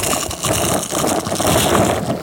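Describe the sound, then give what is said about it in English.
A loud, crackling crunch of someone biting into a burger, followed by a couple of seconds of dense, gritty chewing noise with no talking. “All right, I want y'all to hear this crunch.”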